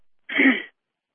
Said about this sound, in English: I cough again.